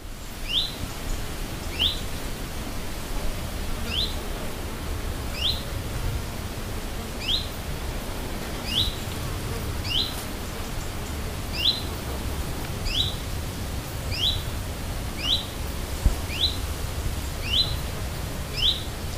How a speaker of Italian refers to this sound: C'è però chi preferisce la carriera solista. Come il picchio muratore e il picchio rosso, con il loro cinguettio ripetuto e cadenzato, in totale solitudine.